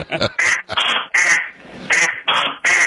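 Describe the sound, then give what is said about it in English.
A duck call is blown in a rapid series of loud, nasal quacks, about seven bursts in under three seconds with brief gaps between them, with no talking. “That's a duck call.”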